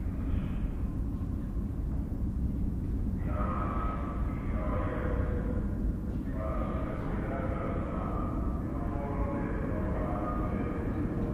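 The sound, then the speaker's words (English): A subway train's steady, heavy rumble fills the whole stretch, with a high, tonal motor whine rising in over it twice, briefly dipping around the middle before returning. “That's right, the sound of a subway.”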